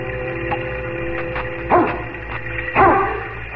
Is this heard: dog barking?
yes